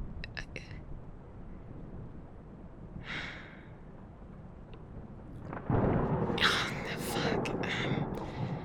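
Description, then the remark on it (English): A low, continuous rumble of storm thunder swells suddenly louder partway through and keeps rolling, with a few breathy sighs or gasps audible over it. “Just because of the storm.”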